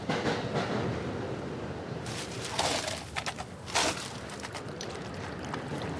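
Steady, roaring rumble inside a moving commuter train bar car on the Metro North line between New York City and Stamford, Connecticut, with louder bursts of rattling and hissing clatter midway through before the drone settles back down.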